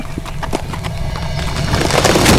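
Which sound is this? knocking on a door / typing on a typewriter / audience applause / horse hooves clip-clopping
horse hooves clip-clopping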